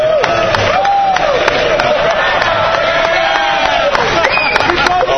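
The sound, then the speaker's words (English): A crowd claps steadily while many voices cheer and call out over the applause, making a dense, loud, continuous wash of sound. “Oh, yeah, you can clap for her after she confesses my sin.”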